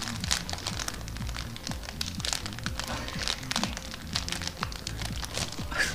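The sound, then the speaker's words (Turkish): A nylon plastic bag crinkled continuously as foley to mimic a crackling fireplace, with dense irregular snaps and rustles at a steady moderate level. A faint voice may sit underneath. “Naylon torbayı hışırdattım vallahi.”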